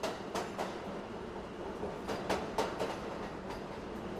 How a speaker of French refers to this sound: Le train arrive à quai, elle ouvre les yeux. Les wagons du métro sont clairsemés.